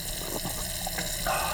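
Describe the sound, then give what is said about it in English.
Water runs steadily from an outdoor tap in a continuous, hissing stream, moderately loud, with a slight surge in the flow near the end. No one speaks. “Who the hell is stealing my water?”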